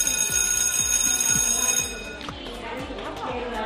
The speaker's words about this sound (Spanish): No va a haber cambios. Ese timbre va a volver a sonar el próximo lunes.